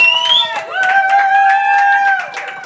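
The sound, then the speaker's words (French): An audience on the set of the show Radio Impro claps steadily with dense, overlapping hand claps while a sustained vocal cheer or cooing sound rises and holds above the applause, moderately loud. “Eh ben, on peut vous applaudir.”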